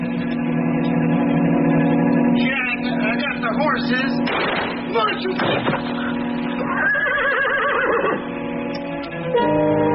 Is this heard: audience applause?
no